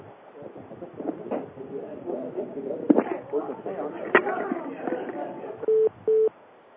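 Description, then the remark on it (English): Muffled background noise with a couple of sharp handling clicks as a telephone is picked up from another location during a call, followed near the end by two short, steady electronic beeps in quick succession. “if you just hold in for 1 minute, I'll pick up the phone from another location.”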